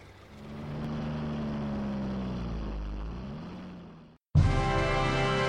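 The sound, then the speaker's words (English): A bus engine rumbles and revs as it pulls away, its pitch rising and dipping through gear changes, then abruptly cuts to a louder, steady droning engine. No one speaks. “What time does the bus leave?”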